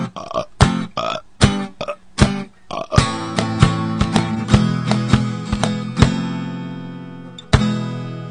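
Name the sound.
loud burp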